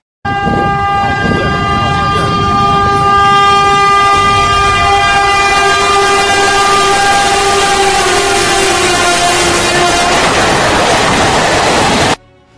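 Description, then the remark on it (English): A train in the forests and jungles of India rumbles past while its horn blares in one long, loud, continuous blast for about ten seconds, then the noise swells briefly and cuts off. “Again and again, the train silently stalks the forests and jungles of India, taking down its prey.”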